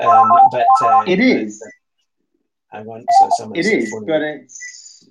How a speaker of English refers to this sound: Is there a fire alarm going off somewhere? No, it's just my phone. I don't know why that's going in the background there. But I'll try and make sure that it doesn't come on, but it might well phone again.